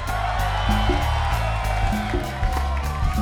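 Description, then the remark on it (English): A live concert audience cheers and whoops in a steady, loud wash of crowd noise as the band's keyboard player is introduced, with a low bass line and rhythmic beats running underneath. “we got … on the keys over there, ladies and gentlemen. Round of applause.”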